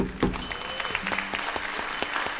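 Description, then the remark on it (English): Sparse, scattered clapping from an audience at a music event, applauding themselves, with individual sharp claps at an uneven rhythm over a steady high-pitched hum, moderately loud throughout, with no one speaking. “How about a round of applause for yourselves?”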